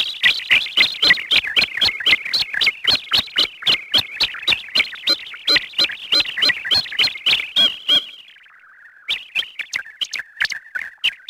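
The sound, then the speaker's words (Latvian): Computer-generated bird-scaring signals from a device by Riga Technical University researchers, used with periodic laser light to drive birds from fish-farm waters: a loud, rapid train of harsh, evenly spaced synthetic chirps, a short descending electronic warble, then a burst of jittery, squawking calls. No voices. “Putni tiek atbaidīti ūdens tilpas periodiski apstarojot ar lāzera gaismu un šādiem akustiskiem signāliem”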